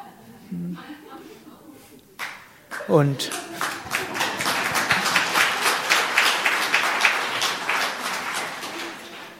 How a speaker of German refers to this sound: Auf der Oberfläche meines Geistes freue ich mich gerade über den Applaus.